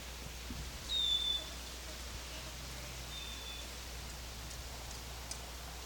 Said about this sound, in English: Wild bird in the background. Wild bird. This is a female.